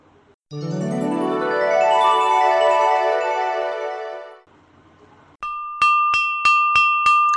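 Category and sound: sound effect, bell ringing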